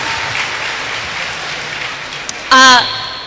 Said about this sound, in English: Thank you. I think that's worthy of a round of applause, yeah.